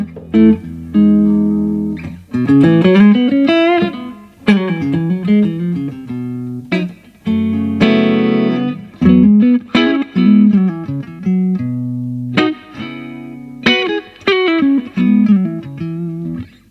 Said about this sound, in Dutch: Even een slokje water en dan gaat het Blackstar versterkje aan. Blackstar versterkers, dames en heren. Goede versterkers zijn het hoor.